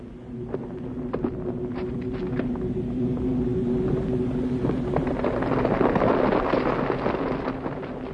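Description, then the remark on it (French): A strong wind roars steadily throughout, a dense, rushing noise with a low droning undertone and scattered sharp crackles, swelling slightly toward the end. No one speaks. “Ma voix et ma vérité ne sont pas dans le vent.”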